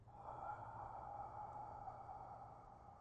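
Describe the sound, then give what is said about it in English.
A single long, steady inhale drawn in through the nose, soft and airy, lasting about three seconds with no talking. “Try it once more. Inhale.”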